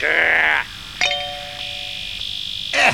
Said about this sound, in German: Nach dem Glockenblumenzeichen melden wir uns mit einem interessanten Sendebeitrag aus dem Uhuheim.